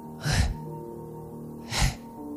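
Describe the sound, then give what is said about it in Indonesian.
Two slow, heavy, airy human breaths about a second and a half apart, over a faint steady humming background with no talking. “Tapi bila dia masuk rumah, dia kunci rumahnya, dia terdengar bunyi seperti napas orang.”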